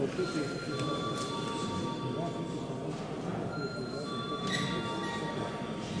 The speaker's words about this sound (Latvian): Lūdzu deputāts balsot par lēmuma projektu. Lūdzu zvanu.